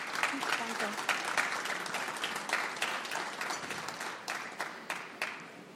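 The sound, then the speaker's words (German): An audience claps steadily for several seconds, a dense patter of many hands that stays fairly even before thinning slightly toward the end. “Auch dafür, finde ich, hast du einen Applaus verdient.”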